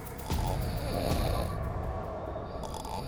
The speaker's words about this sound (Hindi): School का guard अपने room में खर्राटे मारकर सो रहा था।